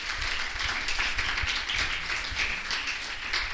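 An audience applauds steadily to welcome a guest, a co-manager of Bed & School Nancy: a dense wash of many hands clapping at once, sustained at an even, moderate level with no voices over it.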